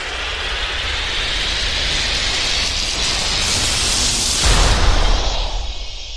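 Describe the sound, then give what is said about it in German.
An airplane roars past overhead, its broad rushing engine noise swelling to a loud, rumbling peak near the end before starting to fade away. No one speaks. “Die Fußballer steigen in ein Flugzeug, fliegen ein paar Stunden und sind im WM-Stadion.”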